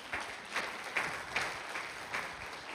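Quiet applause from a small group, soft hand claps blending into a steady patter with a few sharper claps every half second or so, and no voices over it.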